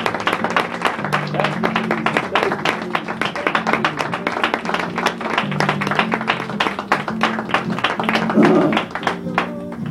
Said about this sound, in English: Again, the mothers, how many just want to say, I appreciate mom? Let's just give the Lord a hand clap praise.